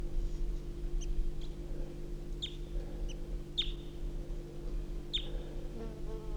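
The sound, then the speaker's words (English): A male bird perched in a small juniper right next to a truck gives soft, brief high-pitched calls, a handful of short chirps spaced irregularly over a few seconds, above a steady low droning hum. No one speaks. “The male's perched up in a small juniper right next to the truck, and he's giving soft calls.”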